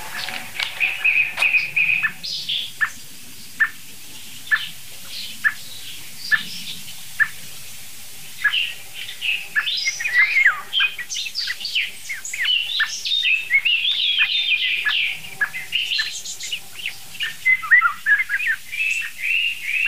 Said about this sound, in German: Hört euch diese merkwürdige Singdrossel an. Irgendwie klingt die doch special.